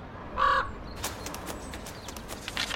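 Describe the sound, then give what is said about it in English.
A raven, one of the Raven Master's birds in the seventh birdhouse, gives one short, harsh caw as it holds a card, followed by scattered light clicks and rustling. No one speaks. “The raven has got the card.”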